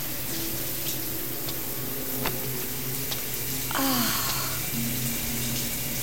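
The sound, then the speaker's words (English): A shower runs steadily, its hot water spray a continuous hiss throughout, with a brief squeaky tone partway through and a low hum underneath. “Oh, but you do have a shower.”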